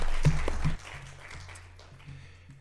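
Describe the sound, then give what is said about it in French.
A short burst of audience applause for a speaker after her testimony at a talk, loud at first and then quickly thinning into scattered clapping over a steady low hum. “Bon, je crois qu'on peut peut-être vous applaudir.”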